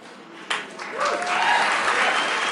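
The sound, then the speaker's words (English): An audience breaks into applause, building from a few scattered claps into a dense, steady wash of clapping that holds loud to the end, with faint cheering voices mixed in. “Yeah, well, oh yeah, yeah, this is where we clap.”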